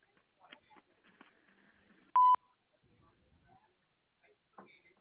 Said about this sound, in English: After the beep, please leave a message. Thank you.